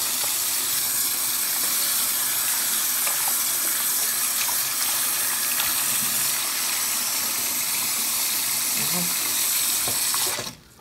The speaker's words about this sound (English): So now let's wash with it. It's good lather.